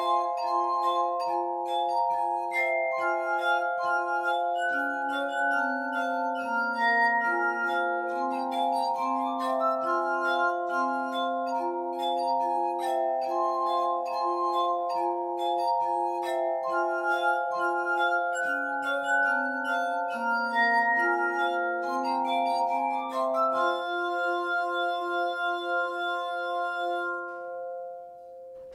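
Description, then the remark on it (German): Musicians play glass instruments, sustained pure ringing tones forming a slow, layered melody with overlapping chords, steady in volume and fading out at the end. No voices. “Und bis dahin spielen ein paar Musiker Glasmusik.”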